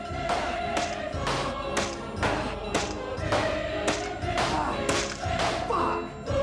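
A sledgehammer pounds a metal safe door at an office in a steady run of about a dozen heavy blows, each clanging hit leaving a ringing metallic tone hanging between strikes.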